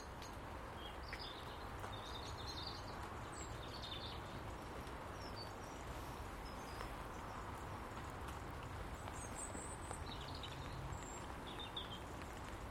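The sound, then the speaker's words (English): Two blackbirds in a garden before daybreak: one sings a dawn chorus in scattered phrases while another, off to the left, gives sharp alarm calls intermittently, over a steady, noisy outdoor background. “One blackbird singing a dawn chorus, another blackbird over to the left calling an alarm.”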